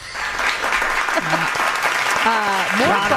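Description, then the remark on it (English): Steady, dense applause from an audience fills the whole moment, with a person's voice speaking over the clapping toward the end. “Continue the applause”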